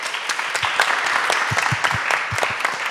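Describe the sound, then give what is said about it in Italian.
A crowd applauds steadily for the day's guest, dense overlapping claps forming a bright, continuous wash with a few sharper individual claps standing out, no voices over it. “a cui farei un applauso.”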